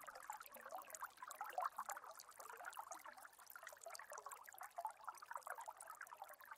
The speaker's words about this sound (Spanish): Comienzas a escuchar a lo lejos un sonido de agua que cae. Te vas acercando más y más. Y de lo alto de una montaña puedes apreciar una cascada.